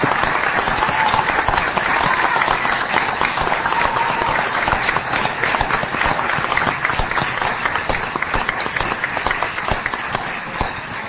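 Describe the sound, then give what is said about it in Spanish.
Sustained applause from an audience for a high school (liceo) on its 80th anniversary, at a gathering broadcast to listeners; a dense, steady crackle of many hands clapping at once, loud and continuous for about eleven seconds, fading slightly toward the end with no voices. “Bueno, para que la audiencia, para que los que están del otro lado del receptor se enteren de cuánta gente de acá, ¿por qué no aplaudimos al liceo en sus 80 años?”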